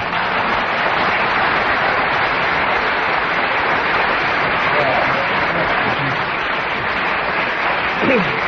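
An audience breaks into spontaneous applause because Kenneth Williams kept going for 1.5 minutes on the subject, a dense, steady wash of many hands clapping that holds at an even, fairly loud level for the whole stretch without pausing.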